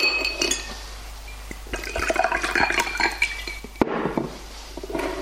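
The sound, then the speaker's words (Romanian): Whisky is poured over ice in a glass, with sharp clinks of cubes and a steady splashing pour, then a sudden knock and more trickling; no one speaks. “ia să o luăm cu whisky, că poate mai bine.”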